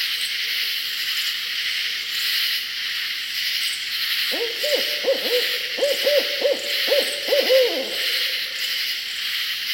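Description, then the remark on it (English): In a southern swamp, a barred owl lets out a quick run of hoots partway through, layered over a loud, steady chorus of many katydids calling in unison, buzzing high and unbroken the whole time. “Listen to this raucous chorus calling loudly in a southern swamp, interrupted only by the hoots of a barred owl.”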